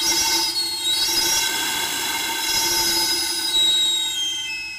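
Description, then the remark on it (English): A steam whistle on a yam and plantain street vendor's steam-powered cart, used for cooking plantains and yams, shrieks steadily for several seconds. It is a loud, sustained high-pitched tone with layered harmonics and a faint hiss beneath, with no talking over it. “This sound is to let people know that the yam and plantain vendor is on the way.”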